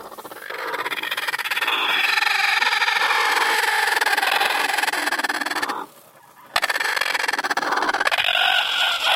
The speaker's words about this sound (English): That's Marilyn the hen.